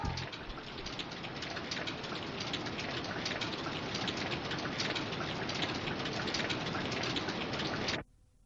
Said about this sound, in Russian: Дождь идет!